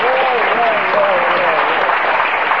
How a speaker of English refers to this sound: I can applaud for that one.